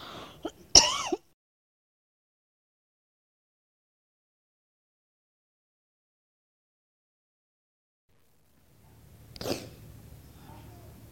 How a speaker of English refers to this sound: I'm going to cough again.